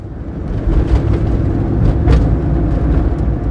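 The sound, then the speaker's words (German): A car engine rumbles steadily from inside the vehicle, with irregular thumps and rattles as it jolts unsteadily along forest paths at sunset. No one speaks. “Es stank noch immer nach Pferdemist und auch dieses Mal schaffte es dieser Idiot nicht, den Wagen einigermaßen ruhig über die Waldwege zu bewegen”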